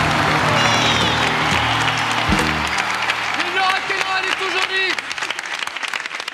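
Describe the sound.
A crowd applauds loudly and steadily with dense, continuous clapping after a live song duet, while a voice and some lingering music tones sound underneath before the cheering thins slightly toward the end.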